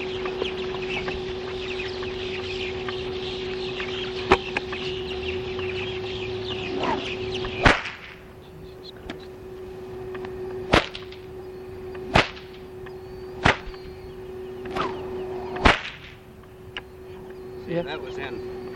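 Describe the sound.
A cow whip is cracked sharply outdoors in the morning, about six loud pops spaced a second or two apart, with rooster crowing and clucking fowl in the background and faint speech.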